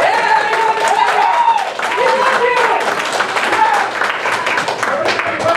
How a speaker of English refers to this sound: Give the defender a round of applause.